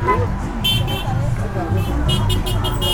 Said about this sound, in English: People waved flags and drivers honked their horns as part of a rally in Rubén Darío Park in Sweetwater. South Florida's largest Nicaraguan community lives here,